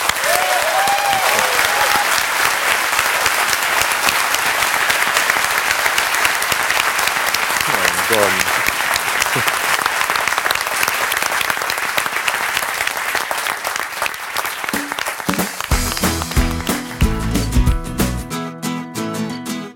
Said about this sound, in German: Ja, wenn keine Fragen mehr da sind, dann beschließe ich jetzt ganz offiziell nochmal die Sitzung. Freue mich über die rege Diskussion und nochmal ganz herzlichen Dank und jetzt mal großen Applaus für euch.